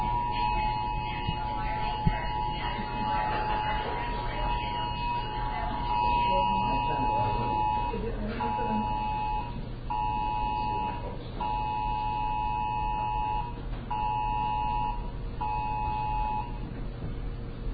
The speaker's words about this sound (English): Okay, on the phone, this is a test of the National Wireless Emergency Alert System. No action is needed, except you do need to take action. You have to hit OK on your phone, otherwise that message won't go away.